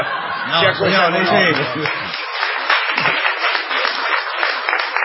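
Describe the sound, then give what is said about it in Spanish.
A crowd applauds steadily, a dense wash of clapping that runs the whole way through, with laughter and voices mixed in during the first couple of seconds. “¿Qué cuánta gente que aplaude, eh?”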